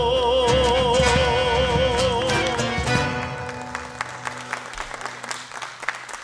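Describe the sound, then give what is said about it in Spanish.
An audience breaks into applause as a band's live song with a wavering melody fades out during an afternoon music performance, then the clapping continues on its own, steady and fairly loud before thinning into scattered claps. “Aplausos.”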